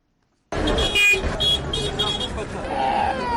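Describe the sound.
A crowded bus station, the Nyabugogo National Bus Station in Kigali, around 8 p.m., hums with engine noise and a murmur of many voices, while car horns toot in short bursts over the steady din.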